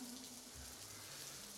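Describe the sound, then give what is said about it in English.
A steady, soft hiss of falling rain fills the short stretch without a break, quiet and even, with a faint low hum running beneath it. “Can you feel the rain just falling down?”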